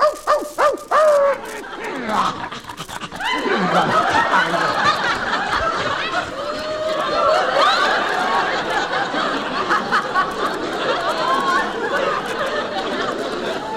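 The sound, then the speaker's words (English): A few quick, sharp barks from a female dog come in the first seconds, then give way to a steady wash of laughter and chatter that continues to the end. “Isn't she cute? Hello, doggy.”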